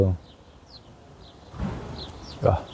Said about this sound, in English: I feel I'm in the woods. Birds are singing here. Wow.